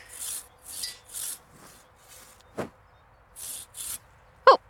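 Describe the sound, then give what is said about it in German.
Hand saw rasping through a tree branch in short, rhythmic back-and-forth strokes, pausing between bursts, with a couple of sharp woody snaps near the middle and end; a first cut to get a feel for the saw. “Wir sägen gleich nochmal nach, aber du solltest erstmal die Säge kennenlernen.”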